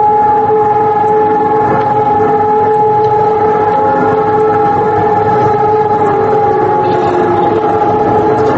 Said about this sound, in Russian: Всех, однако, заставляет на минуту остановиться и объединяет вой сирен, который раздался во многих польских городах в 8 часов 41 минуту. На улицах замерло движение транспорта и пешеходов.